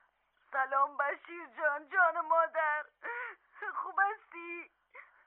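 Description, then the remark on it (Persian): A mother cries as she tries to speak over the phone, her voice wavering and breaking in halting, sobbing bursts, sounding thin, as if coming through a phone. “چرا گریه میکنین؟”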